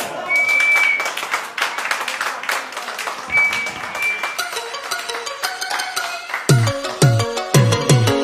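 A crowd bursts into dense, steady applause, with a couple of sharp high whistles cutting through, before instrumental music fades in and rhythmic drum beats start over the fading clapping; the audience applauds to welcome a music ensemble.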